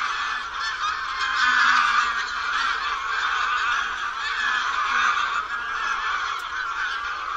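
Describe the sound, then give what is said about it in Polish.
A flock of greylag geese honks continuously, many harsh, nasal calls overlapping in a dense, steady chorus, with no gaps or other sounds. “A teraz znów gęgawa.”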